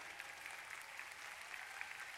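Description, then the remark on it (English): An audience claps their hands in a dense, continuous burst of applause, many overlapping claps forming a steady, bright wash of sound with no voices standing out. “Clap him the other way.”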